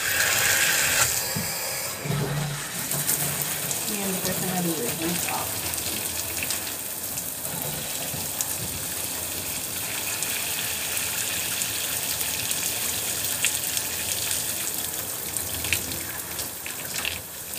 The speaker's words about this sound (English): So now, I can turn back on my shower.